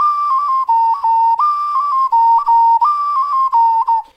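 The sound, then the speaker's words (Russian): A drop-shaped clay whistle plays a pure, breathy tone, stepping between a few close notes in a short tune that repeats three times, with brief pauses for breath and no talking. “Но вот так звучит свистулька каплевидная.”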